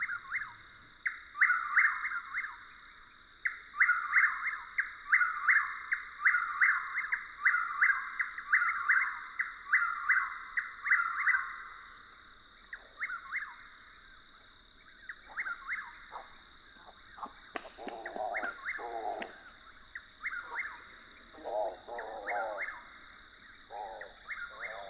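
A nightjar sings a fast, rattling churr that speeds up and runs steadily for several seconds, then it takes flight and breaks off into a few sharp wing claps followed by short, throaty calls, over a constant high insect-like drone.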